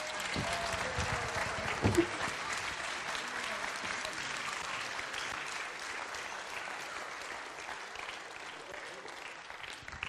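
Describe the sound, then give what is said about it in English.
Steady audience applause for the actors fills the whole stretch, a dense crackle of many hands clapping at an even level, with a brief louder burst near the start and a faint murmur of voices underneath. “Another round of applause for our actors.”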